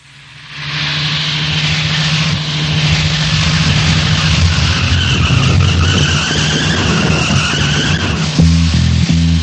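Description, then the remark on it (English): A car engine roars at speed while tyres skid and squeal in a long, loud screech, the noise building steadily throughout, with a low rumble near the end. “better get in the car, better not drive as fast”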